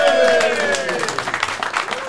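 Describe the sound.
A burst of audience clapping with scattered hand claps, mixed with voices calling out and cheering over the top, lively for a couple of seconds.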